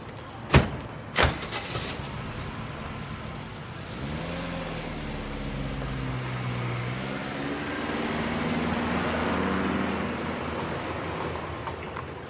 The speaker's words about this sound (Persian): سوار ماشین میشن.